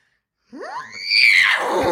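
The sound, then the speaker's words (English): A person imitates a horse's whinny with one loud, rising and wavering vocal squeal that breaks into breathy rasping toward the end, heard alone. “Horse.”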